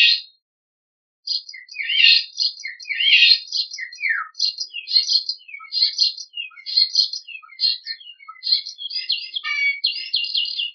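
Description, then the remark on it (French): A starling sings a long, varied song of chirps, whistles and rapid trills, mimicking in quick succession a golden oriole's song, a hen's call and a heron's call, clear with no voices. “Écoutons un chant d'étourneau, et nous allons essayer de repérer quels sont les oiseaux que cet étourneau imite.”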